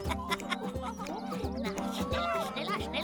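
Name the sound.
chickens clucking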